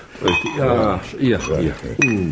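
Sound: drinking glasses clinking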